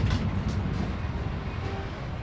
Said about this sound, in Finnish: Tatu ja Patu saapuvat raitiovaunulla Linnanmäen pysäkille. Juuri oikeaan aikaan.